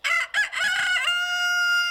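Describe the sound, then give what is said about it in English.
A rooster crows once, loud, in a barnyard announcing the new day, with a few choppy opening notes that give way to a long, sustained, strained final note, heard alone with no voices. “In the barnyard, only one bird gets the honor of announcing the new day and waking you up.”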